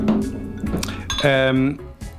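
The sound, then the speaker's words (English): A wine glass clinks a few times while a stout-like beer made with Pilsner malt is poured into it, with a brief bright ringing tone in the middle, over a faint background murmur. “I'll drink out of the wine glass.”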